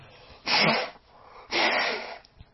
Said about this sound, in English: I'm going to blow my nose. Are you ready?